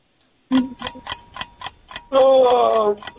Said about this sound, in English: There's the buzzer. That's a little bit of a tougher question, of course.